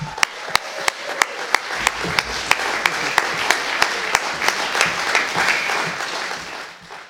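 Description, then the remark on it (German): Audience applause at an event, welcoming one of the organizers onto the stage: a steady wash of many hands clapping, with a few sharp, regular claps standing out on top, fading slightly toward the end. No one speaks. “Applaus!”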